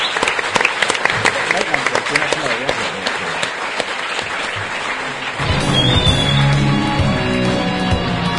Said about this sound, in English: So, big round of applause for all of our people.